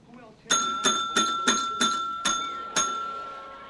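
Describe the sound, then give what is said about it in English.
A front desk service bell in a dingy lobby is struck seven times in quick, slightly uneven succession, each bright metallic ding ringing on and overlapping the next, fairly loud. “Scott eyes the bell.”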